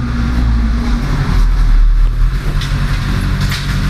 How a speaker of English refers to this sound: Sounds of it, that's not the electric crew. That is the debris crew they're taking all the trees and sucking them into the truck and then grinding them. The truck is actually going back and forth down the street in front of the house.